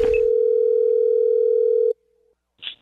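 A telephone ringing tone on an outgoing prank call from a caller posing as a wedding DJ: one steady, loud electronic buzz lasting about two seconds, then cut off by a click, followed by a brief faint rustle.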